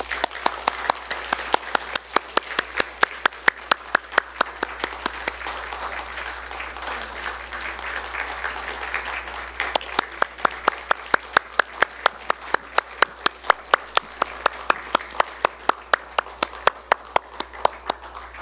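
A church audience applauds to welcome a mission team coming to the front for a sending prayer, about eighteen seconds of dense clapping with a steady, rhythmic pulse of sharper claps throughout, holding fairly even in loudness.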